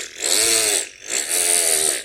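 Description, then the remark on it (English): A car engine revs twice in quick succession, each burst climbing to a high, buzzy whine and dropping back, with a brief pause between. Loud and harsh, with no talking. “When suddenly the RPMs shoot up to like 7,000 RPM, and the engine starts revving.”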